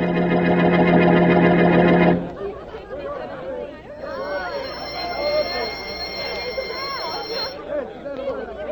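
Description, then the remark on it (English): A loud, steady school bell, the last bell before class in a classroom, rings continuously for about two seconds with a buzzing, harmonic tone, then cuts off abruptly as a crowd of children's voices chatters on. “That was the last bell.”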